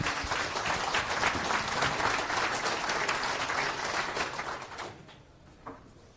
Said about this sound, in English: Big round of applause